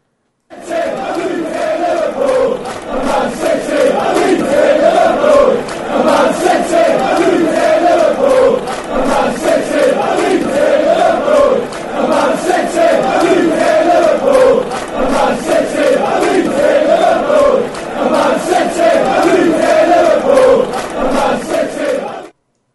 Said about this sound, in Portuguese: Ouviremos então a canção que fala sobre a rivalidade Manchester-Leeds. Vamos lá.